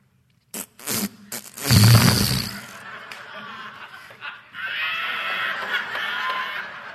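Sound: voice imitating a fart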